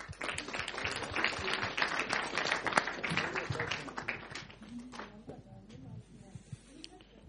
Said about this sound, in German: Und Dankeschön, ein Applaus für euch.